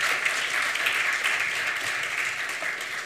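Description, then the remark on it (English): A crowd applauds steadily, many hands clapping in a dense, sustained wash of sound throughout, with a single brief voice heard faintly beneath. “So let's give them a round of applause for their hard work.”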